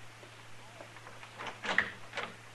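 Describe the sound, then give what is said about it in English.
A door is opened with a short run of muffled clunks and scraping rattles, growing louder toward the end, over a low steady hum. “Open the door, Dillon.”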